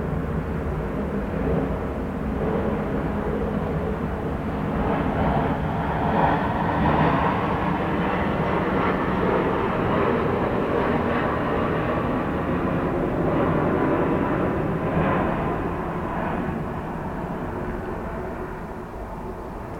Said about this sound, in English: still just watch that airplane roll overhead as it arcs down toward landing.